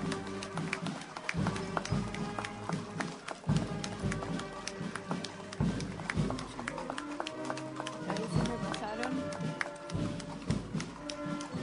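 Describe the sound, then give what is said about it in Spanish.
Horses of gaucho cavalry riders arriving from all sides for an event, with steady clip-clopping hooves, a busy overlapping patter of many hoofbeats on a hard surface, with faint background voices and a murmur of activity. “Y de todas partes van viniendo los distintos jinetes, a quienes por supuesto les vamos brindando un fuerte aplauso a todos estos integrantes de la caballería gaucha que han dejado sus actividades para decir presente en esta jornada.”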